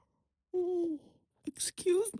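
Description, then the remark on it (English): A voiced yawn with a falling, drawn-out tone lasting about half a second, then a short pause and a few breathy, hissy vocal sounds. “Sorry for my yawning.”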